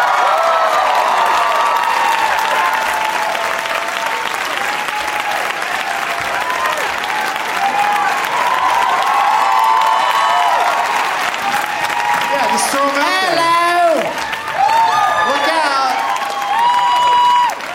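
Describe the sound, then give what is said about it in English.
A crowd at the Gramercy applauds loudly and steadily for the whole stretch, with cheers and whoops rising above the clapping, especially toward the end, as comedians Graham Elwood, Pete Lee, W. Kamau Bell and Jim Gaffigan are welcomed. “Please give a big warm welcome to my friends Graham Elwood, Pete Lee, W.”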